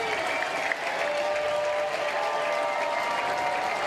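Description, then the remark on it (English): The entire crowd at the Rhodes House, on its feet, applauds and cheers steadily, a dense, continuous wash of clapping and voices at an even, loud level throughout, with a few higher whistles or shouts cutting through. “Entire crowd here at the Rhodes House to their feet.”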